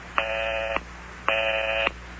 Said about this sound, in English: Is that the number you're dialing there? Yeah. And I keep getting the busy signal.